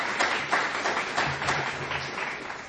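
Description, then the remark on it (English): Steady audience applause for a distinguished panel, a dense wash of many hands clapping at a fairly even level for a few seconds with no voices standing out. “If you will, a hand of applause for our distinguished panel.”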